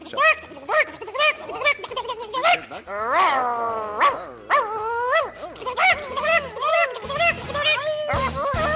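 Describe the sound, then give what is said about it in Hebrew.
A dog barks and yips in a rapid, excited series, mixed with rising and falling whines and howl-like cries, loud throughout, in a fight with a hen. “מלחמת כלב ותרגולת.”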